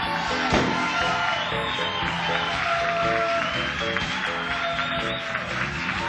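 A crowd claps and cheers steadily for about six seconds, with whoops and shouts rising over a dense, continuous wash of applause that stays loud throughout.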